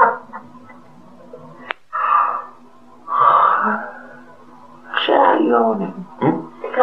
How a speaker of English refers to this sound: Yawning. I'm sorry, really. I can't help it.